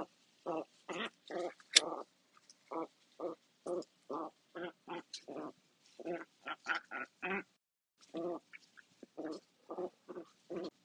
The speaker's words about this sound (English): Hope you guys are enjoying this ASMR of ducks. Very nice, got 80 of them, but I digress.